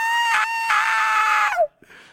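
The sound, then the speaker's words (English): An adult voice imitates a child's tantrum, a child kicking on the floor and screaming for candy, letting out a loud, sustained, high-pitched scream for about a second and a half before it breaks off, followed by a brief quieter vocal trailing. “That's what the child thinks when he's kicking on the floor screaming and he wants the candy in the rack and mama already said no.”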